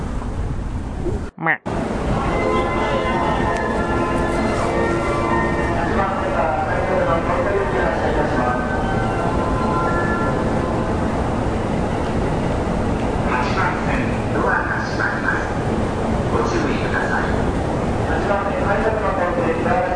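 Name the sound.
inside a moving train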